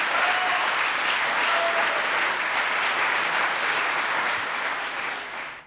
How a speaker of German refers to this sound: Die Fragestellerin bekommt viel Applaus für ihre Kritik daran.